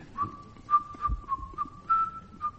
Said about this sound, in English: Well whistled. I know it so well, but what is it?